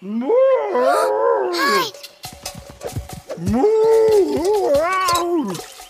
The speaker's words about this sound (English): It's a wild pig. Sanglier.